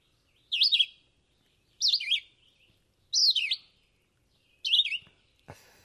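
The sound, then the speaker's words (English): A songbird sings four short, high, slurred whistled phrases, remembered as 'here I am, where are you', separated by brief pauses, each a quick up-and-down warble; a soft click or thump comes at the end. “it's not a real colorful bird, and they love to be up in that middle and upper part of a tree canopy”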